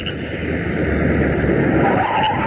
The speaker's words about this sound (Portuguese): E o carro parou aí.